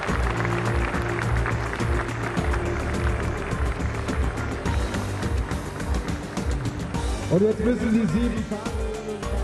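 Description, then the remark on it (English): An audience at the world premiere of the new BMW 3 Series claps steadily and loudly for a Glacier Silver BMW 335i Sport Line with 306 HP, in a dense, continuous wash of applause, with a low humming drone underneath and a rising, engine-like tone toward the end. “Come out with a round of applause, please.”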